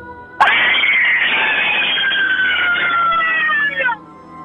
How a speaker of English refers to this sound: You, right now, the power is in your lungs and in your voice. Give us that all scream.